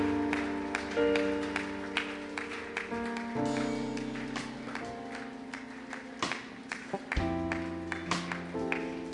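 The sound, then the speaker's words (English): A crowd claps along for people making their way to the front, in a loose, steady patter over sustained keyboard or organ chords, the applause moderately loud and continuous throughout with no voices standing out. “Clap for them, please, everyone.”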